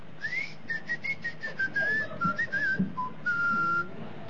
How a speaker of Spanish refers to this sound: Bueno, se abalanzan sobre los juguetes con silbido y le encajan un mordisco para que chifle.